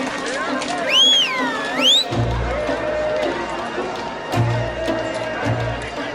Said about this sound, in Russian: Слышите? Опять топот копыт. Снова кто-то едет?